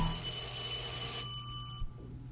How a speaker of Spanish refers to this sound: El timbre del teléfono lo sustrae de su amargura. Por instinto va a tomarlo,